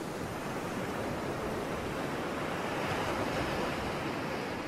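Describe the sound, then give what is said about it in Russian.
Ocean waves wash in at night in a steady, continuous roar of surf, with a gentle swell partway through; no voices, just the broad rushing hiss of water. “Крупные яркие звезды склонились над океаном, отражаясь в воде.”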